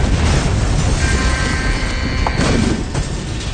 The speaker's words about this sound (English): Air from outside entered the reactor. It caused another explosion.